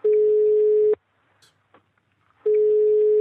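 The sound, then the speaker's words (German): A telephone call tone sounds while a fourth caller is being added to a Skype and telephone call: a loud, steady low-pitched tone lasts about a second, breaks for a quiet pause with faint clicks, then returns. No one speaks. “Per Skype und Telefon zugeschaltet. Und zwar wollen wir jetzt nicht nur zu dritt sprechen, sondern wir wollen heute zu viert sprechen.”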